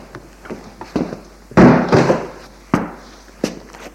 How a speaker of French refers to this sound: J'entre, mon petit. La porte s'ouvre.